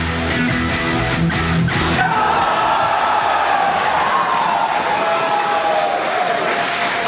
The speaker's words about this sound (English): Is that a touchdown celebration? Cheering for a home run? No, that's a space celebration right there. SpaceX Polaris, the Dawn crew, is out. The first historic commercial spacewalk happening as we speak.